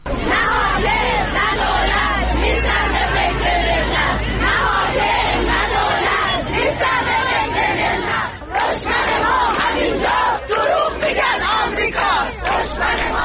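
A large crowd of retired teachers in Isfahan, protesting their poor living conditions in front of the provincial education department on a Thursday morning, chants both professional and political slogans in loud, rhythmic unison, the massed voices continuous throughout with only a brief dip partway through before the chanting surges again.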